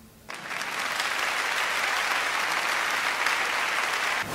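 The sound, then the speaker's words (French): Sustained applause from a sizable crowd in a full studio at RCN, a dense wash of clapping that starts abruptly and holds steady at a fairly loud level for about four seconds, with no voices heard over it. “Vu les applaudissements, il y a un masque fou, non, il y a un monde fou dans ce studio.”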